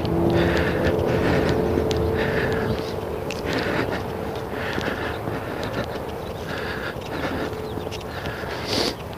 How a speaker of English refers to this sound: Oh, there's a school bus again. I've made the turn eastward, so I've got almost a half a mile of clear visibility due east down one of the main streets here. And sure enough, the school bus came through.